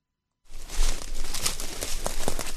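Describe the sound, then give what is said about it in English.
Dried rockweed (Ascophyllum nodosum) washed ashore in Lubeck crunches and crackles underfoot as a person inspects mounds of it, in a dense, steady rustle punctuated by several sharp pops, starting abruptly after a brief silence with no voices. “The dried rockweed that has washed ashore in Lubeck crunches and pops beneath”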